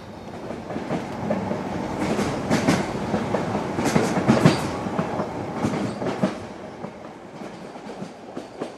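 A train carriage rolls steadily along the rails with a rhythmic clickety-clack, fairly loud, rattling and clattering continuously before easing slightly toward the end.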